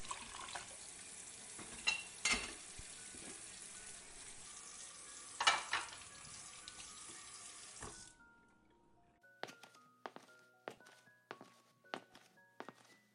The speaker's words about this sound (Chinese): 我去洗碗。